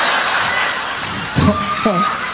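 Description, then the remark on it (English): Steady, dense clapping from a crowd fills the whole stretch, a continuous patter of many hands, with a voice briefly rising over it near the end. “I'm like, all I hear is clapping.”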